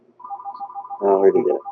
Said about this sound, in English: Who's got a phone? That's me. Who's got a phone? Stop ringing. Whose phone is ringing?